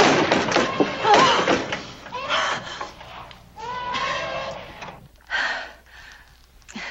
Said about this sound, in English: She opens the doors behind her, returns inside, and shuts the doors.